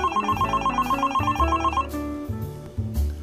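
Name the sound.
cell phone ringing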